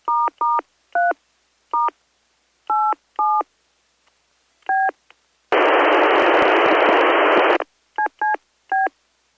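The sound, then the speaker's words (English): Crisp DTMF tones keyed on a radio keypad while holding down the push-to-talk button, about seven short beeps in an uneven sequence, then a loud two-second burst of radio static, followed by three more quick tones. No one speaks. “It's fun because I can type in DTMF tones by holding down PTT and pushing the keypad.”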